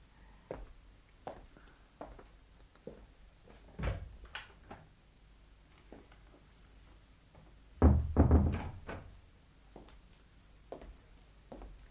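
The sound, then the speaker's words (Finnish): A door opens and then bangs shut with a heavy thud, surrounded by soft footsteps and small knocks; no one speaks. “Mitä kuulitte? Ovi.”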